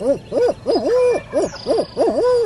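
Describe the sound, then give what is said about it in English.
A turkey hunter imitates an owl's hoot on a mountain ridge in the early morning: a loud series of rhythmic, wavering hoots rising and falling in a barred-owl style cadence, with no other voices. “I pause to owl hoot.”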